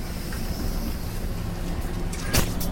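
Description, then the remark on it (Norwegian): The engine of bus 79, bound for the Jericho skole stop, rumbles steadily as the bus idles at a stop, with a short sharp hiss of air near the end. “Hvilken buss er det her?”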